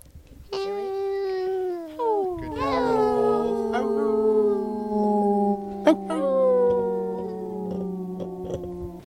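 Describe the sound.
Several voices join in a long, sustained group howl imitating wolves, the pitches sliding and overlapping for several seconds, loud, with a brief sharp whoop near the end.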